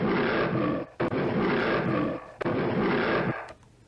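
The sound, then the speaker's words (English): A lion roars loudly in long, rumbling bursts, roughly three in a row with brief breaks between, fading off at the end; no one speaks. “Also, during the night, a fox eats the rooster, and a lion eats the donkey.”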